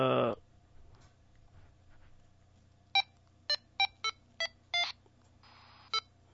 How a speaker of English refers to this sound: you get the low beep and you go to the input, high beep, you're back on the output.